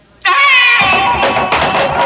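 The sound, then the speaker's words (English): An eerie banshee wail bursts in after a brief silence, a loud, high, keening scream that holds and wavers, turning rougher and more ragged toward the end, with no talking. “And once again, we hear the eldritch scream of the banshee wail.”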